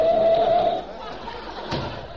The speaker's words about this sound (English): Well, slam a door and let's get going.